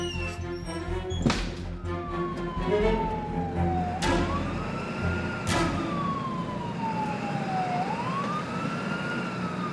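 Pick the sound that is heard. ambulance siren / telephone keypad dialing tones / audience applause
ambulance siren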